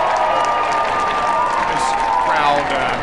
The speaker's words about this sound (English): cheer from the crowd. Not to limit it, but the fan didn't catch that ball. I feel like you should only cheer if the fan catches it.